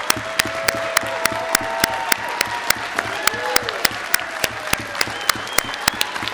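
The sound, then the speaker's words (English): An audience at a show claps steadily for a performer, with sharp hand claps cutting through a dense bed of applause. A few voices and whoops rise faintly above it throughout. “but right now we're just clapping for you.”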